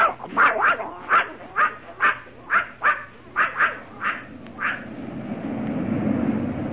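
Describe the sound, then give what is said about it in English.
A puppy named Corky barks in a quick, excited run of about a dozen short, high yaps, fairly loud, before giving way to a steady low rushing noise. “If I had a puppy, I'd have more consideration for his innards.”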